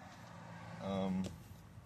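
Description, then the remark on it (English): Quiet car-interior ambience: a low, steady, muffled rumble fills the enclosed space, with a brief voiced murmur rising in the middle before fading back to the hum. “More or less, I'm in my car posting this right now, so some of the conversations I have are going to be in this car.”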